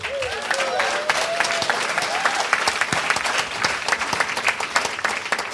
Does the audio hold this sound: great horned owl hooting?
no